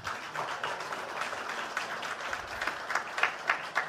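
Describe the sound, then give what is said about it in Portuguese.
A crowd applauds Pinato and Veronde, a dense, crackling wash of many hands clapping at an even loudness, with a few sharper individual claps standing out toward the end. “De modo que o Pinato merece, mais uma vez, um aplauso de todos, assim como o Veronde.”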